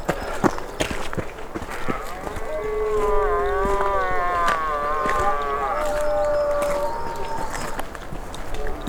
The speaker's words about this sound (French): Et là, vous venez d'entendre le seigneur de la forêt, le cerf. C'est la période du brame. Alors, c'est plus durant la nuit que le cerf brame. Mais le jour, et c'en est la preuve, il brame aussi.